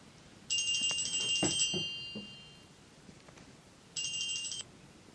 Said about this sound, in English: Okay, you probably noticed that my phone just went, so I had to stop this